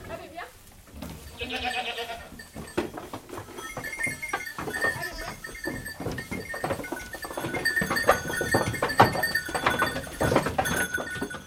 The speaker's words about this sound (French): Alors, les chèvres, elles sont dans les prés, on va dire, de mi-mai jusqu'à mi-novembre. Elles sont hyper efficaces parce qu'elles adorent tout ce qui est végétation, herbe et aussi arbre.